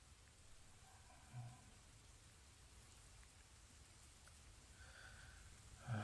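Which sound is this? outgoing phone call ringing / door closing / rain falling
rain falling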